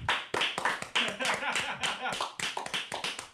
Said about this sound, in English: Round of applause for Blue Chew.